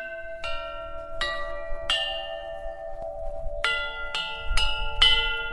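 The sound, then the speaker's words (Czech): Carillon bells at Velígrad chime a series of struck tones, each ringing out and overlapping the next, with a pause midway before a quicker run of strikes; clear, no voices. “Dokonce je tady zvonkohra se zvonem.”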